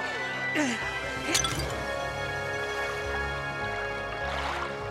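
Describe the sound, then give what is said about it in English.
A water jug drops and smashes in a sharp, fairly loud crash, with a second clattering hit just after, over a busy background of voices and a steady watery hiss. “My water jug is getting in the way.”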